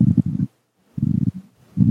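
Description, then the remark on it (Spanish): Mobile phone handling noise: three loud, muffled bursts of low rubbing and bumping, each about a third of a second long, separated by short silent gaps, with no voices. “si gustas ahí con el manipulación del celular o algo.”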